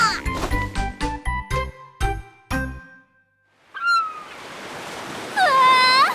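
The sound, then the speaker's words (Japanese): Ocean waves wash in as a steady, fairly loud rush of surf after a series of bright chiming tones and a brief pause, with high whistling cries rising over the noise. “やっぱりいい波を見てると言いたくなるよね。”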